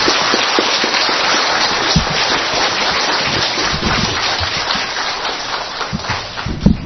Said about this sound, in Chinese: 好吗？ 我们再大声鼓掌一下哈。